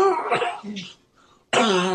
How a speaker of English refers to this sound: Wait, takes a big hit. Down he goes. Wait, he gets up and coughs one more time.